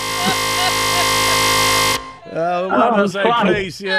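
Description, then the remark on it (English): A loud, harsh game show buzzer blares steadily for about two seconds, a flat rasping tone full of overtones, then cuts off as a person starts talking. “It was sliced, but after the buzzer”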